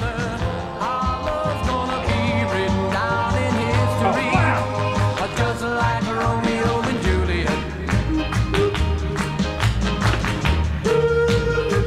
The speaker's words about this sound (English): They know they run a good hand clap, eh? They run a good combo hand clap stomp as well.